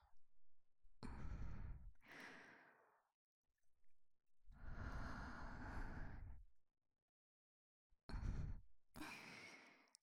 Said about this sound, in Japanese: 耳元で熱い吐息を出しながら